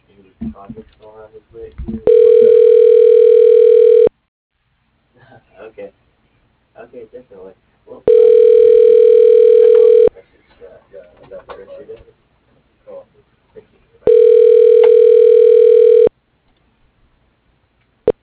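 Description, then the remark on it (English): A telephone ringback tone plays three times as a company's automated dial-by-name directory connects a call to an employee, each a steady, mid-pitched two-second burst with roughly four-second gaps. Softer murmuring sounds fill the pauses between rings. “Calling.”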